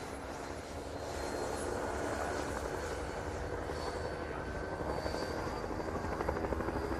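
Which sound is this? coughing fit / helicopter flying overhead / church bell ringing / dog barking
helicopter flying overhead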